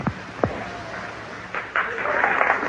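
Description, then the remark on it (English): An audience breaks into clapping partway through, a dense, steady patter of many hands that continues to the end, preceded by a couple of brief vocal sounds. “Oh, Christ, I'm not trying to talk for clapping.”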